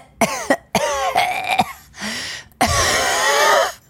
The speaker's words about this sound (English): So then I'm sitting on the train coughing. Guys, I'm coughing.